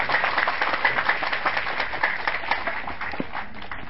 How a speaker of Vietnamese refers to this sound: Thì trước tiên nói thì trước tiên ca thì xin đại chúng cho một tràng pháo tay thật lớn để chúc mừng giảng sư.